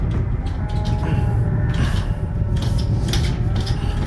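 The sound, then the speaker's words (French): A stuck double door is shoved and rattled several times, with clattering jolts over a loud, steady low rumble. The door never gives way, and no one speaks. “Il y a une double porte là. Ça a l'air de mener sur un plateau industriel ou. Je sais pas. La porte est coincée.”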